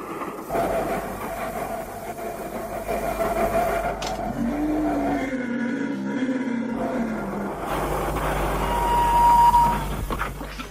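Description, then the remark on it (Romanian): A train rumbles while metal brakes screech in long, high squealing tones, the grinding growing louder toward the end as it slows hard. No one speaks. “Păi da, așa se frânează.”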